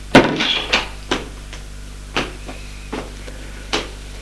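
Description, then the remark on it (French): A wooden wardrobe door thumps open, followed by a series of soft clicks and knocks as a pair of pyjamas is handled and pulled out, with no talking. “La porte de l'armoire, en sort un pyjama.”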